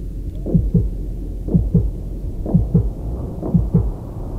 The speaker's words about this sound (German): Fühlst du sein Herz schlagen?